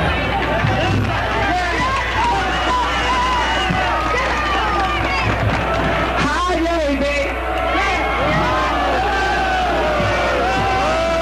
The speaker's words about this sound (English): hear people booing her. So here, listen to this.